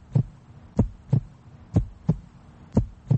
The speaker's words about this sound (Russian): Так стучит сердце обычного москвича.